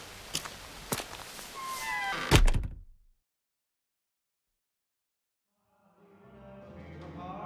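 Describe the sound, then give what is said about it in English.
A few soft knocks and shuffling lead into one heavy thud of a door slamming shut against freezing air, followed by several seconds of silence before a muffled, murmuring background creeps back in. “Oh, freezing with the door open.”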